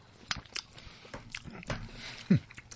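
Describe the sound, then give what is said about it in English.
Quiet sounds of several people biting into and chewing juicy grilled pineapple with coconut during a tasting: a scattering of soft, wet crunches and mouth clicks at an uneven pace, with a brief low murmur near the end. “So I'm also going to take a bite. We're everyone chewing, everyone else.”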